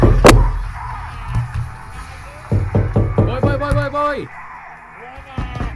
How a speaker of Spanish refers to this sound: Uy, espera que están golpeando la puerta.